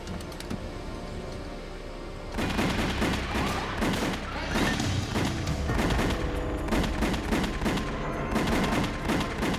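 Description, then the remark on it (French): A rapid burst of gunshots at close range, sharp overlapping cracks firing in quick succession for several seconds after a quieter opening, loud and dense like a volley; gunmen shooting Paul Castellano and Tommy Bilotti beside their car, each hit by six bullets. “Ils avaient reçu 6 projectiles chacun.”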